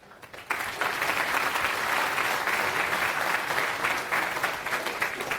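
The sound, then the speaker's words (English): An audience breaks into applause for the next speaker at a talk on fuzzing after a brief quiet moment. It is a dense, steady wash of clapping that holds at a fairly loud level until the end. “Round of applause.”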